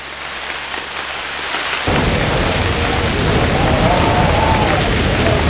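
Steady rain hisses across the whole clip on a bitterly cold night, then a deep roaring gust of north wind swells in and keeps blowing loudly over the downpour, with faint whistling rising through the wind near the end.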